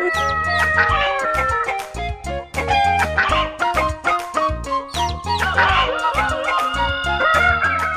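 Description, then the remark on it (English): Chickens cluck loudly and continuously while a rooster crows in drawn-out calls, the noisy flock filling the whole stretch without any talking. “Those chickens are around here somewhere on Alternative Talk, AM 1150. There they are.”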